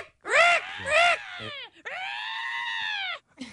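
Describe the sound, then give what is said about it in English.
A voice imitates a seagull's screech: two short, sharp squawks followed by one long, strained, wailing cry, loud, with no other sounds around it. “No, but you know that seagull sound they make? It's a little bit more of a screech or, yeah.”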